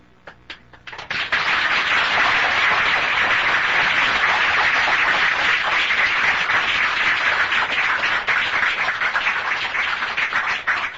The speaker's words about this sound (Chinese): 高雄的徒弟啊，自己先鼓掌，先拍手啊